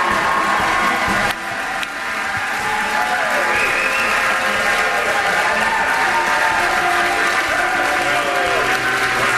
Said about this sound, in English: Huge applause.